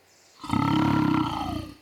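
A lion lets out a single loud, deep roar lasting over a second, rumbling and sustained before trailing off, heard alone with no talking.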